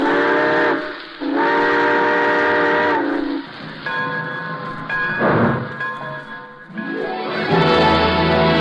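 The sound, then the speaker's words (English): A steam train whistle blows in long, loud, harmonic blasts, repeating several times as the rumble and hiss of a train pulling away continue underneath. “All aboard! Folks, it looks as though we're ready to pull out.”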